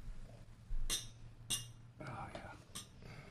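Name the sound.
glasses clinking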